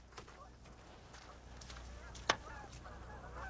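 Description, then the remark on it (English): A duck gives a single short, sharp call near the end as it is released along with other caught ducks, standing out over steady outdoor background noise, with a few fainter calls scattered earlier. “What I'm going to do now is going to release this duck along with the others that we caught.”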